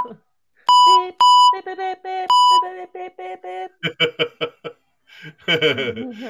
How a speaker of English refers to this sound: The thing is, I'm so late with the button. You know, he would say what he wants, and then I'd beep the next word.